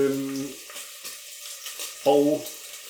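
pork belly sizzling

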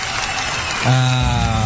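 applause sound effect

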